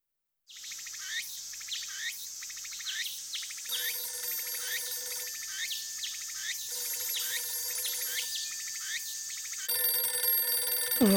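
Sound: telephone ringing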